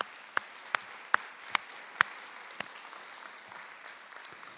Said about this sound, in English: So how about a round of applause for them as well?